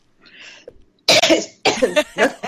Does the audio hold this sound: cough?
yes